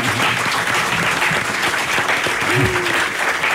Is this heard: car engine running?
no